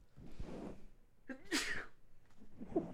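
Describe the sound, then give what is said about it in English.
One sharp sneeze bursts out after a quick intake of breath, loud and hissy for a moment, with soft murmuring vocal sounds just before and after. “Bless you.”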